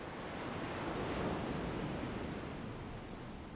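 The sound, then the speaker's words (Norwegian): A broad, steady wash of ocean surf swells gently and then eases, filling the space with soft continuous roar and no voices. “Når bølgen slår inn, puster du igjen langsomt inn.”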